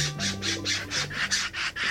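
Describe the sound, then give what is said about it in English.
A corvid, a crow or jay, gives a rapid run of about eight harsh, raspy squawks in a steady rhythm, fairly loud, over a faint low hum with no talking. “Corvids, like crows and jays, are known for scatter hoarding, which sometimes turns into inadvertent gardening, says forest and behavioral ecologist Mario Pesendorfer.”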